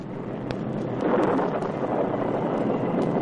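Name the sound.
storm wind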